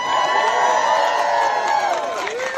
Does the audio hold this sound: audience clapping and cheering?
yes